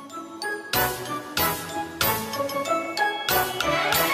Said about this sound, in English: Jingle, jingle, jingle, you will hear my sleigh bells ring.